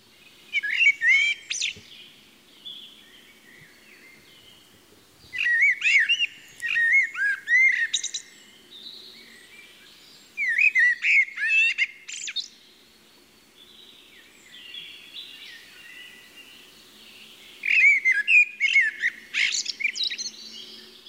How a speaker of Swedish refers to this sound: Och så jämför vi det med en koltrast.